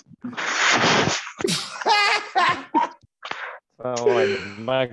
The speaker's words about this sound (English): Sneeze.